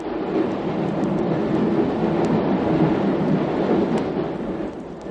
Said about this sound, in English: Look, we don't seem to be stopping at the next station. We're going right through. Oh, we can't be. Tube trains stop at every station.